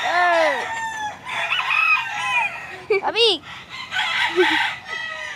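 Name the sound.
rooster crowing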